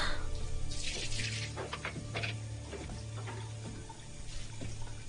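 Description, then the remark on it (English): Tap water runs steadily into a sink while dishes are washed, with intermittent clinks and clatters of plates and cutlery over a low constant hum. “دادن ظرفا رو تو بشوری ها؟”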